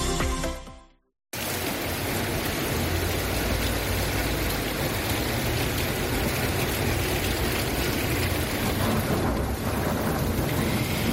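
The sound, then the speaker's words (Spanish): A morning thunderstorm in full force over the city of Huelva, Spain: heavy, steady rain roars loudly and continuously, with low rumbles of thunder rolling underneath. A brief fading sound and a moment of silence come first; nobody speaks. “Pues así nos hemos despertado hoy en Huelva y así continuamos, porque llevamos con la misma tormenta encima de la capital y en varias zonas de la costa, porque es un frente bastante importante en torno al desde las 7 de la mañana aproximadamente.”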